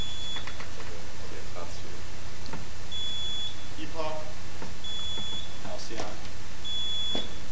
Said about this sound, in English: On my right is Lhasa A, and we're going to check their buzzers, ring in, and give your first name and last initial.